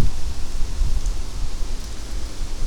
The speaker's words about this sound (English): Then I noticed that there was occasionally a gust of wind. And I said, oh, well, maybe if we get down in the creek, it won't be so windy. Yeah, it's pretty damn windy.